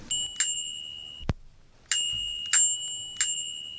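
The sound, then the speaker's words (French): A bicycle bell rings sharply several times, its bright metallic tone sustaining between strikes, with a brief pause before a second burst of rings; clear, no voices. “Et la nuit, un gilet jaune fluo pour être bien vu, des réfléchissants, des phares blancs et rouges et avoir une sonnette.”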